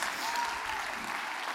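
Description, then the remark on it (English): An audience claps hands to give God praise, in a steady, dense wash of applause that holds an even loudness throughout, with faint voices mixed in beneath the clapping. “Clap your hands and give God some praise in this house.”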